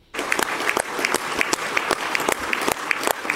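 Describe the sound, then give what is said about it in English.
Members of the Russian Parliament applauding after officially ratifying the admission of Donetsk, Luhansk, Zaporozhye and Kherson into Russia. Dense overlapping claps form a continuous wash, with sharper individual claps popping through, fairly loud and sustained with no talking. “So, yeah, that is Russian Parliament clapping, applauding after they officially ratify.”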